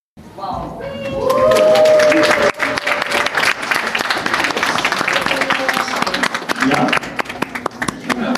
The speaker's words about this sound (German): Ja, Applaus und eine trotzige Aufbruchstimmung war da zu spüren.